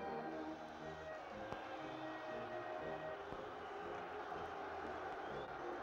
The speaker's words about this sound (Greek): Το πλήθος κλαίει, ουρλιάζει, πάλεται, φωνάζει, παραλυρεί. Είναι ο Ηρακλής, φωνάζουν οι θεατές, και ο Κύκλοψ.